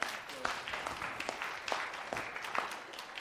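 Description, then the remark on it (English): A crowd applauds itself steadily, a dense wash of many hands clapping with a few sharper individual claps standing out. “So I just want you to give yourselves a round of applause if you're part of that as a team or brought someone.”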